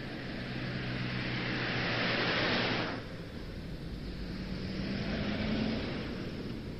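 A car engine runs steadily, heard from inside the car, a continuous hum with a low drone and broad rushing road noise that swells briefly, then drops a little and carries on. No one speaks.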